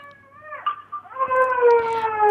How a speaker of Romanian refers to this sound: Acolo aveți un nepot? Se aude un copil mic. Da. Chiar îi dădeam să mănânce.